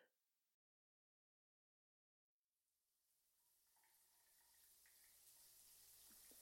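A shower starts running after a short pause of silence, its steady, hissing spray swelling and growing louder, with no voices.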